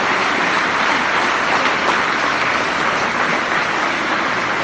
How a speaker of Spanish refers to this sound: Che, a ver, blanquillo, cómo aplaude al presidente. Dos veces en blanquillo.